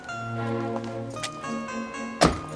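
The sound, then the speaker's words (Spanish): Sustained tonal music plays throughout, and near the end a single solid car door thunks shut, short, as a woman gets out of a car parked in front of an entrance gate. “Se baja del coche y entra.”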